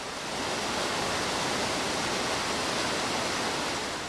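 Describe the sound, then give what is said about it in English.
Steady, dense rushing of water, loud, like a powerful flow pouring through industrial channels, at the Racine Water Utility in Wisconsin, where a submerged membrane filtering system treats water piped in from Lake Michigan. No voices and no breaks across the few seconds. “At the Racine Water Utility, a filtering system called a submerged membrane treats water piped in from Lake Michigan.”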